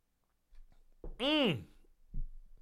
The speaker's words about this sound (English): Just give me a second. I'm going to sip this. Lemon and ginger tea.